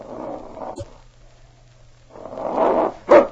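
dog growling and barking

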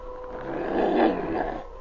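wolf howling

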